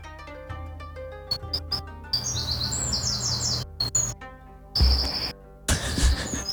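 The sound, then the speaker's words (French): Birds chirp and sing in short bright bursts and trills over a low steady background hum, with no voices; the calls come in quick repeated phrases, moderately loud. “Est-ce qu'il y a moyen d'entendre uniquement les oiseaux sans qu'on ait besoin de parler ?”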